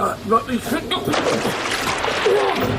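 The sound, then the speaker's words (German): Brief voice sounds lead into a loud splash as someone jumps into the water of a main sewer canal, followed by a couple of seconds of churning, sloshing liquid. “Ja, Luft an, Nase zu und dann Sprung ab, Marsch.”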